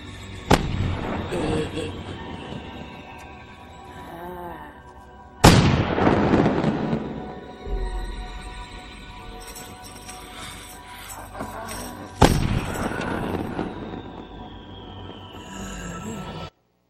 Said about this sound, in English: Okay, so in the rest of this clip, what happens is they keep shooting out the fireworks